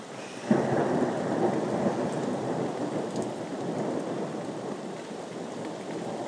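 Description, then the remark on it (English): A thunderstorm with heavy, steady rain hissing across a broad band, opened by a sudden low rumble of thunder that rolls on beneath the downpour. No one speaks. “I'm just really glad that I got home when I did, because now that I don't work just down the road, I could have got very wet in this.”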